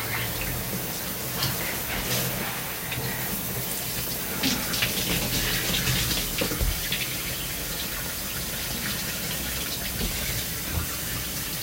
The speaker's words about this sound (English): Shower. Think someone might be home. Just gonna check quick.